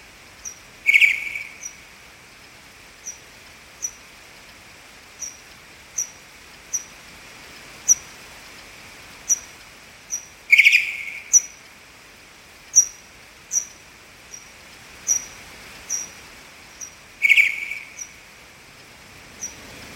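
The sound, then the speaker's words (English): Pipistrelle bat echolocation and contact calls, recorded with an AudioMoth at a high sample rate as the bats hawked up and down a garden, slowed down 8 times: a steady series of short, high clicks every half second or so, broken three times by louder, buzzier descending contact calls, with no voices. “Using an audio moth at a high sample rate, I was delighted to record these pipistrelle echolocation signals and contact calls, here slowed down 8 times as the bats hawked up and down the garden.”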